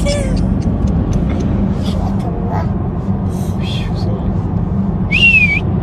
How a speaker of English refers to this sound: Listen to him whistle at the end.